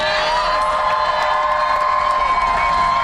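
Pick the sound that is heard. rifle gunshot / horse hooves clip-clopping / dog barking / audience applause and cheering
audience applause and cheering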